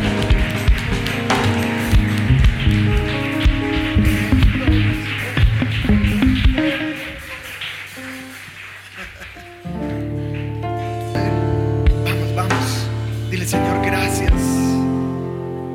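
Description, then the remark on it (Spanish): A crowd at a church worship celebration claps steadily for God in a dense, crackling wash of applause, mixed with sustained keyboard chords that carry on after the clapping thins out. “Vamos, yo creo que ese aplauso puede ser mucho más grande para él, ¿no le parece?”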